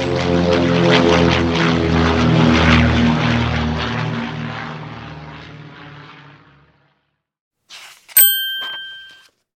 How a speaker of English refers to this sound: They see a plane. Look, a plane, says Robin. Let's go. They jump into the plane and fly up into the sky.